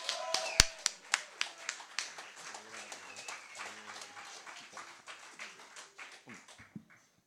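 A crowd in Conchetta applauds as a performer is called up to the stage, with brisk, overlapping hand claps and a few sharp standout claps early on, the clapping thinning and fading away over about seven seconds.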